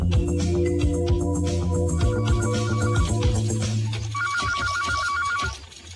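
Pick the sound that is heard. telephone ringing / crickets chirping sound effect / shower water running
telephone ringing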